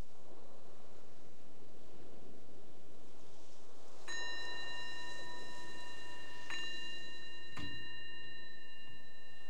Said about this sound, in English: The ringing of the bell invites us to bring the awareness back to the surface, the surroundings.